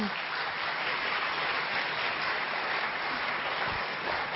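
An audience in the Harmony Hall claps steadily to welcome a speaker, a dense, even wash of many hands applauding at a constant loudness for several seconds, with no voices heard.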